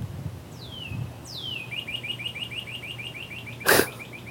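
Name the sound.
birds chirping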